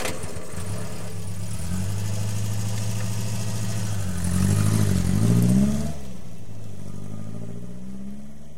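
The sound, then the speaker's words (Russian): A car engine runs with a steady idle, surges into a brief rev that climbs and falls, then settles back to a lower idle as Nadia starts the motor of her car, stopped outside a building. No one speaks. “«Хорошо», — согласилась Надя и завела мотор.”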